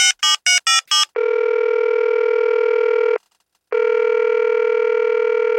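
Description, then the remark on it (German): Five quick dialing beeps, then a steady electronic ringback tone that holds for about two seconds, pauses briefly, and sounds again, the sound of a phone ringing on an outgoing call. “Lass sie mal anrufen.”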